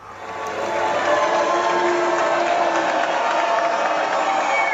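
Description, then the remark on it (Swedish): A large audience at the Kennedy Center in Washington greets President Donald Trump and Melania Trump entering the auditorium with a dense, steady roar of mixed reactions, booing blended with applause, whistles and scattered shouts, swelling after a quiet start and holding loud throughout. “Donald Trump och hans fru Melania möttes av både burop och applåder när de gjorde entré i salongen på Kennedy Center.”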